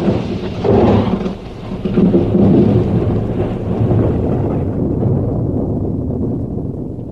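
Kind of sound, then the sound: nature, rain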